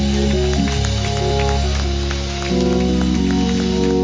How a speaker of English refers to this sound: Come on and give him a hand clap of praise, church.